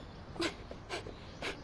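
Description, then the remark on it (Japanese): A dog gives three short, breathy yaps at an even pace, about half a second apart, moderately loud with no talking over them. “あ、例の犬ですね。”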